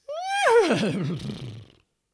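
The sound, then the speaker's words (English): A voice imitates a horse's whinny as part of an Opera Southeast choir piece: one loud call that starts high and steady, then warbles and shakes downward for under two seconds before cutting off. “Everybody, including you, will then whinny like a horse.”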